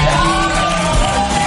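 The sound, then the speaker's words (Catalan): A TV show audience bursts into steady applause mixed with shouts and whoops as a man is shown his makeover, a dense, loud wall of crowd noise that holds evenly for the whole moment with no clear speech. “Aplaudiments, jo diria...”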